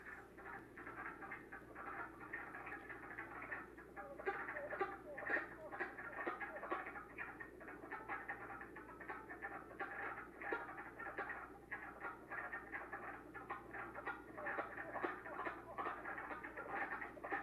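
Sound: wood frog calls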